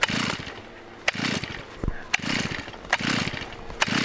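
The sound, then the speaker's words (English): A chainsaw carving a whale sculpture from a pile of snow about 80 feet long and 30 feet high runs in a steady, droning buzz, its engine pitch rising and falling in repeated surges about once a second, with sharp clicks and scrapes cutting through. “The tools of the trade include a chainsaw, a flathead shovel, and a carpet scraper.”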